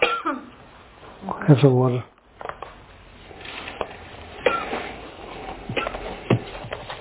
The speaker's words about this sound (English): Allergy? No. I don't know. Just had a cough.